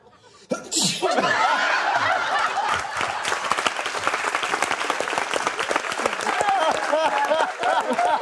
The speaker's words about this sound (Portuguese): Deixa eu ver esse vídeo de espirrando. Aí, ó. Olha lá.